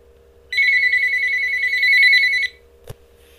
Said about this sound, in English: Word up, the phone just ringing off the hook.